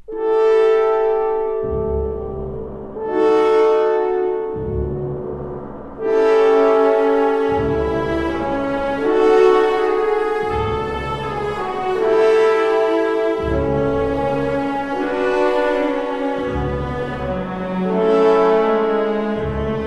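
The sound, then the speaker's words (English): A full orchestra imitates the pealing bells of St. Basil's in music by Mussorgsky: loud, ringing chords from horns, harp and gong over regular deep strokes of timpani and pizzicato double basses, repeating steadily with no voices. “We hear the bells of St. Basil's, imitated by horns, harp, timpani, gong, and pizzicato double basses.”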